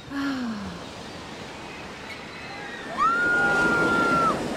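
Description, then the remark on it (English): Ocean waves rush and wash in a steady, noisy roar that swells louder partway through, presented as the sound of Florida's winter. A few thin, high tonal calls or whistles ride over the surf. “Look out for that wave!”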